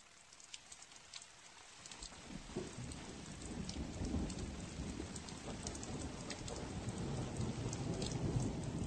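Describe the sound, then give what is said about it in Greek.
Steady rain patters down while a low, rolling thunderstorm rumble swells in after the first couple of seconds, the storm growing fuller and louder toward the end. No voices. “Τα σύννεφα μαζεύονταν στον ουρανό και άργησαν οι πρώτες βροχές.”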